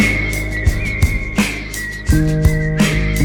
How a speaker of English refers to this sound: Whistles across the meadow